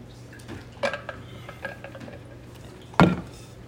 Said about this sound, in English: Sorry, I'm going to get a little bit of water real quick.